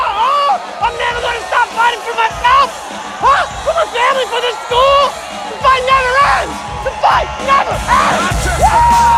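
Thousands of students cheer and whoop in a courtyard, many overlapping voices yelling and hollering at once, loud, the excited roar continuing without a break as they converge on a man doing a victory strut into their midst.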